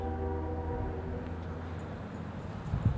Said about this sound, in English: Train to Boston, or maybe the train from Boston. Tooting in the background, you may catch that. There are 5 train crossings in Franklin, and it blows the whistle as it makes each crossing.